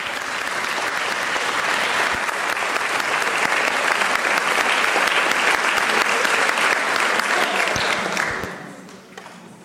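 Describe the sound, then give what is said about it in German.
Sustained applause from an audience for three speakers before a question round opens, a dense wash of many hands clapping at steady volume for several seconds before it quickly fades out near the end. “Und bitte einen Applaus an die drei.”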